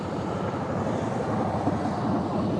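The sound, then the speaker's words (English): A Harley-Davidson motorcycle cruises past on an ocean road by the beach on a beautiful day, with a deep, throbbing engine note that stays steady and loud throughout, with no voices over it. “Harley Davidson.”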